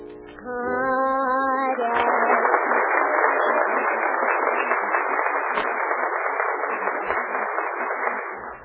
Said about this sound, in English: Now, as I put my hand over each contestant's head, the studio audience will applaud, indicating their favorite.